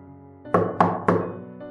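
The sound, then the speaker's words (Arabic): Three firm knocks on a door at an even pace, fairly loud, each with a short resonant ring, over a quiet low hum. “كنت بلبس الجاكيت بتاعي لما سمعت الباب بيخبط، وقفت مكاني من غير اي حركه.”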